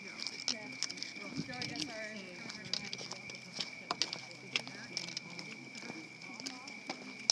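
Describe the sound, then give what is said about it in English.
Crickets chirp in a steady, high, jingling trill that sounds like sleigh bells, broken by quick rhythmic pulses, with soft voices murmuring underneath. “Don't these sound like sleigh bells, the crickets?”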